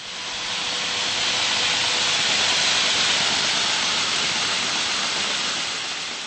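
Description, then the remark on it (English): An electric drill burrows up and down into a running yellow vacuum cleaner in an art exhibit piece called Conflict of Interest by a young Czech artist, making a loud, steady, hissing roar that swells in at the start and tapers slightly at the end, with no voices. “That's the whirring and gurgling of an electric drill burrowing up and down into a yellow vacuum cleaner, one brand attacking the other.”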